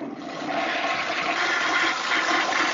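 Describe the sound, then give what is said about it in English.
A toilet flushes, a steady loud rush of water with broad hissing noise lasting a few seconds, no voices present. “Flush. Oh, no, I'm not going to say that. Oh, I heard that,”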